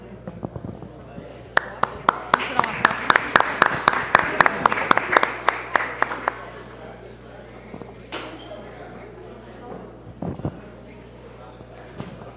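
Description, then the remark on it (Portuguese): A short burst of applause for a motion of applause honouring the staff and management of Alto de Souza: a small group claps in a brisk, fairly even rhythm for about five seconds, then stops, leaving only faint background noise and a couple of stray sounds. “e a todos os funcionários, a direção do Alto de Souza, essa moção de aplausos.”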